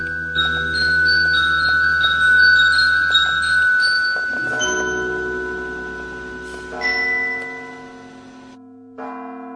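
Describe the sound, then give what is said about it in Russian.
Church bells peal continuously over a town, several tones ringing and overlapping in a loud, resonant clangor with long sustained hum, fresh strikes landing every second or so before the ringing fades out near the end. “На святой, на Фоминой по целым дням трезвонили колокола над городом.”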